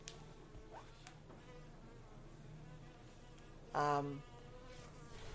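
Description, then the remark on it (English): A buzzing insect hums faintly in the background, then swoops close in a brief, loud, agitated burst before fading away again. No one speaks. “No, that's not going to bite you. That's a very angry bee we have. It's not a bee, you know.”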